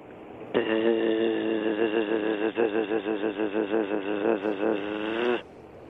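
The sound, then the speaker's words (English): A steady, low-pitched buzzing drone of a bee, or of someone imitating a bee, holds for about five seconds, rich and nasal, wobbling in a quick rhythmic warble through its second half before cutting off abruptly. No talking over it. “I believe that's a bee, or somebody pretending to be a bee.”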